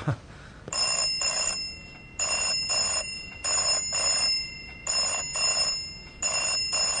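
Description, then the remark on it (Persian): A telephone rings in a steady double-ring pattern, paired bursts of bright bell tones repeating about five times, clear with no one talking. “خانم تلفن.”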